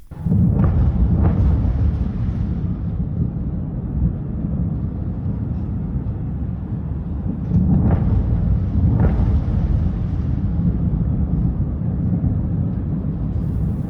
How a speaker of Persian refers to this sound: انفجار وحشتناکی بود.